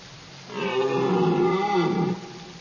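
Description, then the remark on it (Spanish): A single deep, drawn-out bellow from a male deer in rut, courting females among the trees of a forest in autumn, loud, rising and holding for about a second and a half before cutting off, with no talking. “Los inconfundibles bramidos de los ciervos machos se escuchan entre los árboles.”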